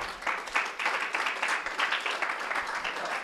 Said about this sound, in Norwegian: Gi deg en applaus.